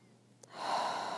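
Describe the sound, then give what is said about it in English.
A slow, airy breath swells up after a moment of near silence and holds as a steady, soft rushing sound to the end, with no talking. “Breathing in and out.”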